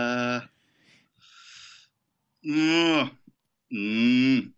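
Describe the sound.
A person imitates a cow, letting out three drawn-out, loud moos with short breathy pauses and soft huffs between them, the voice rich and nasal like real lowing.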